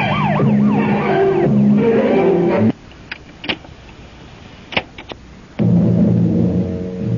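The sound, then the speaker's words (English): A loud police car siren wails in rising and falling sweeps, then cuts off abruptly, leaving a quiet stretch with a few sharp clicks before a loud, steady droning tone returns. “Hit the gas and turn on the squealer.”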